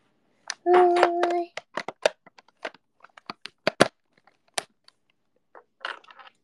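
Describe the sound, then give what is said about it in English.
A pair of scissors is dropped and clatters down with a few sharp clicks and knocks, amid scattered handling noises, after a brief tonal whine at the start. “I dropped the scissors, okay?”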